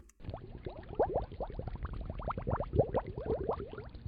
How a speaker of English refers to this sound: And when I press the space key, you hear the bubbles. And every time I press the space key, that's a different event.